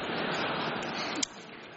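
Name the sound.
audience clapping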